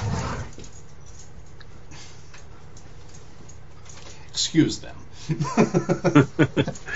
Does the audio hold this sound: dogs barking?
yes